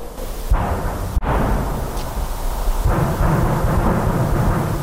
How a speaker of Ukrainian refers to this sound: Пішла відповідь. Горизонт запалав вогнями, навколишні поля та лісопосадки заповнилися розкотистими звуками вибухів снарядів.